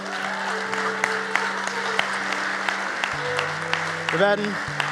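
Sustained applause from a large crowd at a church service, given for people who have just made a decision about their relationship with God, a steady dense patter of clapping with a soft musical drone underneath, continuing throughout at moderate loudness.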